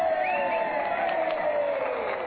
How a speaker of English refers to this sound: Now that the cheers are dying down, we're about to hear the acceptance speech of our candidate, the Honorable Gracie Allen.